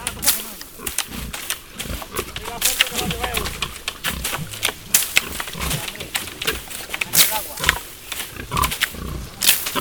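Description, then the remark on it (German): Several Iberian pigs grunt and snuffle, their low, irregular calls mixed with steady crunching and rustling as they root about on the ground for acorns knocked from the branches with long sticks, continuing busily for the whole stretch. “Sofort werden sie von mehreren Schweinen umringt, die das bemerkt haben.”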